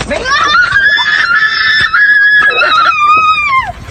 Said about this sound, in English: Yeah, that's the retarded girl screaming, obviously. I don't even know if she can form words. I don't know if she can actually talk. But they just really beat the fuck out of her.